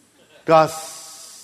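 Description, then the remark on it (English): A voice says the word "gossip", giving a short voiced sound, then drawing it out into a long, steady hiss like a snake, moderately loud, fading slightly over almost a second. “Have you ever noticed how the word gossip sort of hisses?”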